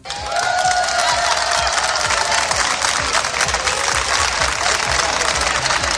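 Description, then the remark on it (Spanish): Sustained applause from a large group welcoming special-education students on the first day of school at the María Corredentora school at 9 a.m., dense rapid clapping that stays loud and steady throughout, with faint crowd voices and cheering mixed into the wash of claps. “Oye, con aplausos, qué buena manera de empezar el día, ¿no?”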